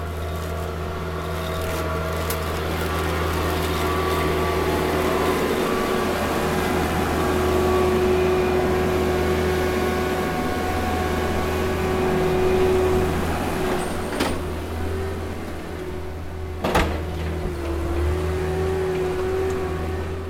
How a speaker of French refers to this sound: Et pour ça, il faut vraiment que la vigne, elle soit. Il y a une hauteur de feuillage soit, enfin, pas excessive et qu'elle soit de la bonne taille. D'accord. Et donc c'est ce qu'il fait avec le tracteur.